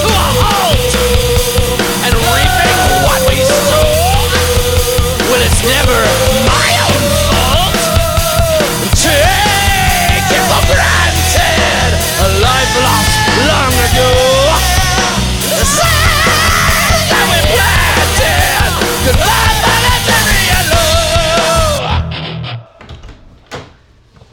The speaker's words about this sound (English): Screaming in here. Mom, you're supposed to knock when I'm in the studio. Honey, it's your bedroom. And why are you screaming? I'm working on a Christmas song. With screaming?